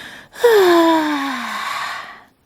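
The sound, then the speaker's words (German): A loud, drawn-out yawn, breathy and voiced, its pitch sliding slowly downward for about two seconds before trailing off into silence. Alone, with no talking. “dass sie nochmal laut und lange gähnen muss.”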